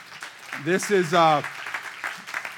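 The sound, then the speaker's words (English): Audience applause as a man walks up to the front, a steady crackle of many hands clapping at moderate loudness, with a few loud whooping cheers rising over it early on before the clapping carries on alone. “You can clap for him as he walks up.”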